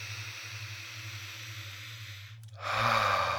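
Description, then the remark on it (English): A long, deep breath drawn in slowly, a brief pause, then a fuller, louder breath out, over a soft low hum; a deep breath taken during a guided count to wake up. “7, take a deep breath with me now.”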